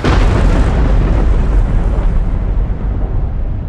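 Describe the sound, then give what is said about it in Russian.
A loud thunder crack from a lightning strike, a dense roaring rumble with crackle that fills the whole few seconds and slowly loses its brightness toward the end, with no talking. “В этот самый момент молния и ударила. Прямо в меня, прямо в голову.”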